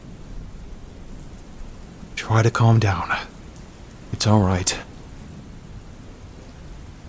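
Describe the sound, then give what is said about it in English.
Steady rain hisses throughout with a low, continuous thunder rumble underneath, while a voice speaks two short, soothing phrases over the storm. “The thunder's not gonna hurt you. It's just really loud.”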